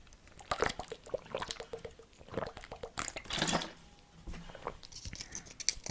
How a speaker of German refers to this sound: Oh, ich muss mal kurz einen Schluck Wasser trinken.